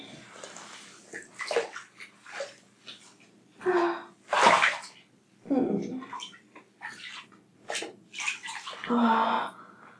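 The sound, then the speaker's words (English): Warm water sloshes and splashes in a filled bathtub as a person bathes: irregular bursts of movement, some sharp and bright, separated by brief quieter pauses, with no talking. “I can feel the warm water on my pussy.”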